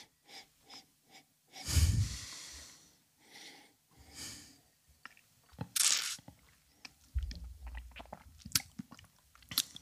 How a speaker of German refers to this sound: Wir nippen.